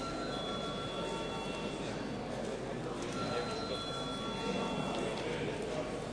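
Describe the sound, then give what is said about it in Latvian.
A parliament voting bell, called for before deputies vote on a bill, rings steadily for the whole stretch, its bright sustained tone held without breaks above a dense murmur of voices and shuffling. “Lūdzu zvanu.”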